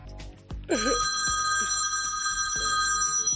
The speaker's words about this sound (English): Answer the phone, Fred.